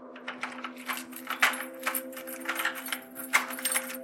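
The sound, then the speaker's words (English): A bunch of keys jangles for several seconds, an irregular run of bright metallic clinks with a couple of sharper rattles, over a steady low background hum and no voices. “When she heard the keys jangling, Mary sat bolt upright on the bed, pulling the duvet close around her.”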